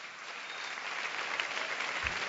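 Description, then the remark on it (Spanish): Steady applause from a crowd for a friend of the performer, a dense wash of many hands clapping at an even, moderate loudness for the whole stretch, with no voices standing out. “Un aplauso para mi amigo”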